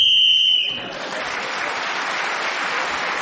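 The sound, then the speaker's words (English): On a game show, a single shrill, steady whistle blast lasting about half a second is blown as Clement Freud is speaking, quickly giving way to a crowd's sustained, even applause that fills the rest of the moment. “Clement Freud speaking as the whistle went, gained that extra point, and with other points in the round, he's moved forward.”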